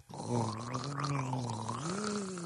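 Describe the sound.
A person imitates a whale call with water in their mouth: a low, gurgling, bubbly hum held steadily for about two seconds, its pitch lifting slightly toward the end.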